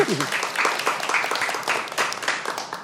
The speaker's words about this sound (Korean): 네. 아, 이렇게 박수 한번.